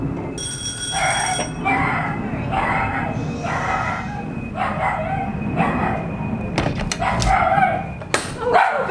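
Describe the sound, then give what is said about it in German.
A dog barks over and over in a steady rhythm of sharp, mid-pitched yaps, with a high ringing tone at the start and a few clattering knocks near the end. “Yeah, sorry about the noise of the dog.”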